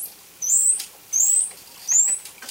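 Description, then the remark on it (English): Three high, thin dolphin whistles rise in pitch at a steady, even pace, each lasting under half a second, heard alone against a faint background hiss. This is whistle number 2, the most frequently used dolphin vocalization. “By the way, here's the most frequently used dolphin vocalization, the whistle number 2 Doyle mentioned.”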